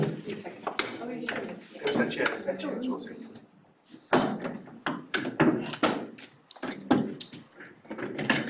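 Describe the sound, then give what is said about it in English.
A chair is shifted about, giving a few dull thunks and knocks mixed in with people talking. “do you want to sit down there and I'll move the chair?”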